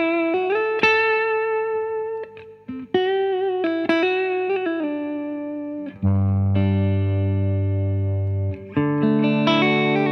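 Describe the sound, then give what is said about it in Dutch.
A distorted electric guitar plays through a Blackstar amp, sustained gritty chords and ringing notes with a thick low chord swelling in the middle, loud and continuous with no voices. “Prima versterkje overigens, hoor. Blackstar.”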